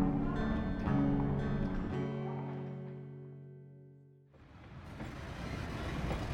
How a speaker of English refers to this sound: A train was pulling into the station just as Johnny reached the depot. He barely had time enough to buy a ticket to Boise, Idaho territory, before the train pulled out.